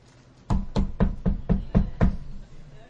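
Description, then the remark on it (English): Seven sharp, evenly spaced knocks rap out in a quick steady rhythm, like someone knocking on a door, each hit loud and solid with a low thump, then silence. “Ding dong, right? Hello, right? Those kind of noises.”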